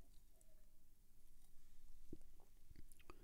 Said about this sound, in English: I'm just going to have a quick sip of liquid patience to really digest the stupidity on display there.